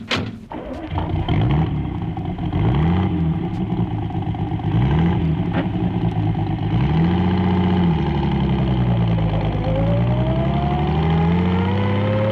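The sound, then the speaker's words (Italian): A car engine drones loudly throughout, its pitch climbing and dropping several times as it accelerates and shifts gears, with a brief thump at the very start. “Passando in macchina, guardò lungamente dal finestrino la cupola della Basilica della Estrela.”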